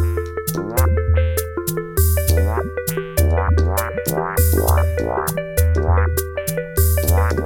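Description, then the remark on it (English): A looping synthesizer pattern of bubbly, croaking 'space frog' blips that sweep upward in quick bursts over a steady bass line and sustained chords, loud with no voices. “Yeah, so maybe we'll put some space frogs in it later, not today. Because although space frogs sound cool, that's not what we need.”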